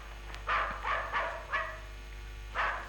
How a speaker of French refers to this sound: Chut. Qu'y a-t-il? Un chien aboie. Quelqu'un a dû franchir le portail.